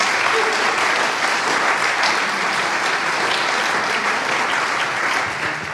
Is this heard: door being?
no